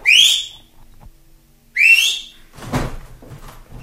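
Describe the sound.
Two short, loud rising whistles from a person, each a quick upward-sweeping tone with a pause between them, followed by a dull knocking or shuffling thud. No one speaks.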